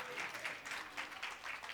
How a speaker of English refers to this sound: 18 years married. No, you got to clap for her.